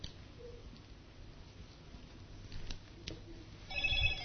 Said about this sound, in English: That'll be the phone.